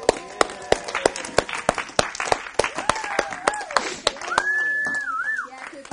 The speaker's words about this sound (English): I want the staff to stand up. I want you guys to give them a round of applause, okay?